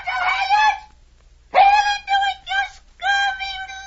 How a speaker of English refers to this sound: Tell us what the bird says, Captain.